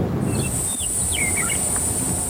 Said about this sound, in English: Initially, I came here 2 years ago, and it was fascinating sounds, the birds like I'd never heard before. And I think we're starting to hear them picking up again, which is exciting for me. You can kind of hear it settling even between the wind.